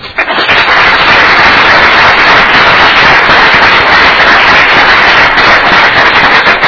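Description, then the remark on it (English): A crowd bursts into loud, sustained applause for Representative Bradley for his service to the state, a dense crackle of many hands clapping at once that holds steady for several seconds without any voices. “So I appreciate his service to the state, and I think we all ought to give him a round of applause.”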